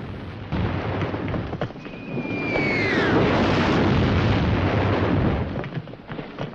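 Two shells fired from the north bank explode in the water, throwing up plumes of spray with a loud, sustained roaring rumble. A high whistle glides downward just before the noise swells to its peak, then the noise gradually eases off. No one speaks.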